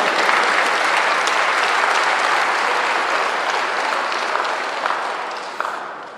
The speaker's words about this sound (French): Amen, on peut applaudir Jésus.